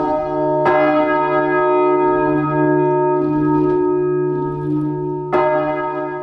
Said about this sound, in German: hier hört man, wie die Glocken so langsam in Schwingung geraten. Wir standen dann ungefähr 2 Meter neben der tonnenschweren Glocke.